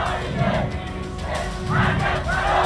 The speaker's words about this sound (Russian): В Тегеране начались массовые демонстрации против израильского удара.